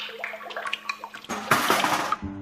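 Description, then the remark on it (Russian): Buttermilk from a clay pot hung around an old man's neck splashes down over his neck and face into a well as he bends to draw water, in one loud, rushing gush lasting under a second, preceded by faint dribbling and trickling, then cutting off into a low, hollow hum. “Тут у него пахтанье по шее да по лицу в колодец и утекло.”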